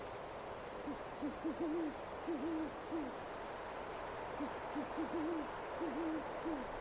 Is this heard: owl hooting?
yes